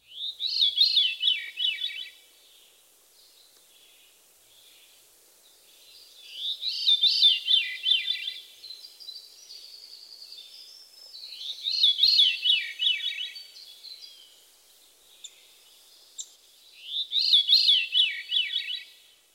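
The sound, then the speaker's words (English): A veery sings four times, each haunting phrase a breathy, flute-like spiral tumbling downward in pitch, with pauses of a few seconds between, and no one talking. “The Veery's haunting song consists of a series of downward spiraling flute-like notes.”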